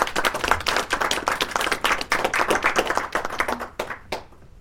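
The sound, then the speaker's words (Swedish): People at a members' meeting clap steadily for several seconds, a dense patter of hands that thins out and fades near the end. “Vi kanske ska ge dem en applåd för detta.”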